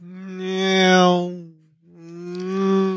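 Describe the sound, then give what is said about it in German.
A voice imitates car noises, honking like a car horn with two long, steady, buzzy honks, each lasting over a second, separated by a brief pause. The honks are loud and uninterrupted by talk. “Wenn du sagst, es ist die dritte Stunde Podcast-Aufnahme, mir ist das alles zu viel, kannst du auch einfach nur Autogeräusche machen und mit zwischendrin mal hupen.”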